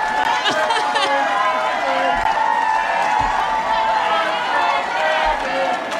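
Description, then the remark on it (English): A large crowd chants "Let's go Brandon" in unison, a loud, continuous wall of many voices holding a steady pitch, with a few dull low thumps underneath. “And now the crowd starts chanting, let's go Brandon.”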